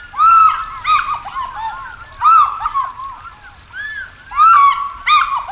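An African fish eagle gives loud, ringing, yelping calls in three close bursts of rapid repeated notes, clear, with only a faint low background hum and no talking.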